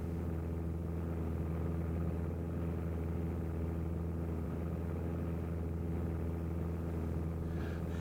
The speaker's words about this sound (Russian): Самолет как будто в порядке. Пробоин, наверное, много, но жизненный центр не затронуты. Моторы пока работают хорошо.